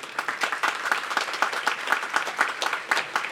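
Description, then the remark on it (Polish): An audience at the ninth Radio Maryja pilgrimage in Toruń applauds a speaker steadily, many hands clapping in a dense, continuous patter at an even moderate loudness, with no voices rising above it. “Należą mu się też oklaski za te słowa, które tutaj wypowiedział.”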